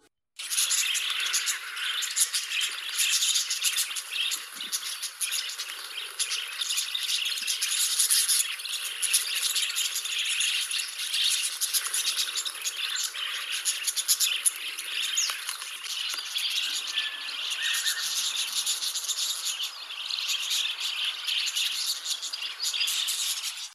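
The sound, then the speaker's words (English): A wild budgerigar flock chitters nonstop, a dense, high-pitched tangle of chirps and twittering that keeps a steady, busy loudness throughout, with no voices. “Let's have a listen to some wild budgies now.”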